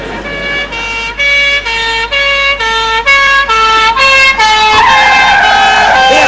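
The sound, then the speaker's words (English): A police car siren blares in a loud two-tone hee-haw, alternating steadily between high and low notes before shifting into a rising wail near the end. “The Panda's doing impressions, Gov. Let's use the car.”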